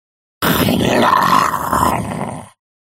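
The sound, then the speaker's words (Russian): A single drawn-out pig grunt, low and rough with a raspy, snorting texture, lasting about two seconds at steady loudness before cutting off. No voices accompany it. “Одна свинья обернулась и вперила в господина Клопли красные глазки и не сказала «хрю», хотя такую манеру речи господин Клопли, рожденный и воспитанный в городе, всегда приписывал свиньям.”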